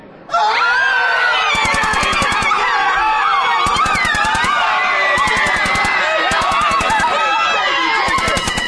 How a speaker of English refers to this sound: So I've never done this before, but I'm pretty sure this is the part where y'all start screaming.